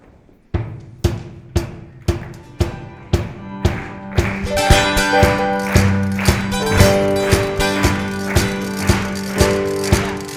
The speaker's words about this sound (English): I want you guys to clap and stomp, and let's send us out on a good note, all right?